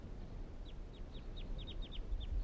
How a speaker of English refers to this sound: Recording the birds calling now again.